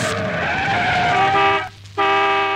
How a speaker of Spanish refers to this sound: Hasta que se oía el chirriar de los frenos. El bocinazo imperioso.